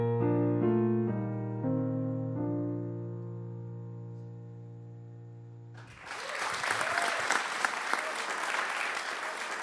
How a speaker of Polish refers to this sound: Wielkie brawa.